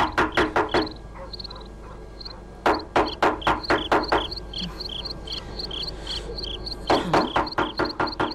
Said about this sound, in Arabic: سأطرق الباب.